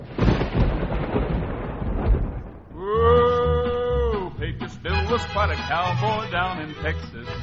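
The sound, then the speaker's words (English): A loud, rolling rumble of thunder fills the first few seconds, then gives way to drawn-out, bellowing vocal sounds and bursts of boisterous noise that carry on to the end. “People say the sound of thunder that sometimes carries over the dry land around the Pecos River is nothing more than Pecos Bill's family laughing up a storm.”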